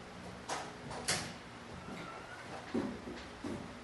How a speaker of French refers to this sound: si tu mets la poubelle dans la porte, tiens, le téléphone. Ça va bloquer, ouvrir un peu.